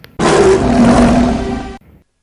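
A lion lets out a single loud, sustained roar lasting about a second and a half, deep and raspy with a rough rumbling texture, then cuts off abruptly. No one speaks.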